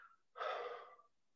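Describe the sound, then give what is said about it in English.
A single audible breath out during a guided group breathing exercise, a soft, airy whoosh of exhaled air lasting under a second, with nothing else around it. “So I'll invite us to breathe out together to start with.”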